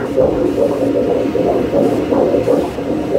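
A rapid, rhythmic whooshing fetal heartbeat of a baby at five months of pregnancy on an ultrasound doppler, a steady swishing pulse pumping quickly and loudly over a constant muffled rumble, with no talking.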